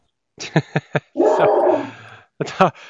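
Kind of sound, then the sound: animal, dog barking and whimpering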